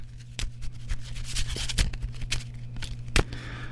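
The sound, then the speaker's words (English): Playing cards shuffled in a quick series of crisp, papery riffles and flicks, with a few sharper snaps standing out over a low steady hum. No one speaks. “I'm going to shuffle these cards up again.”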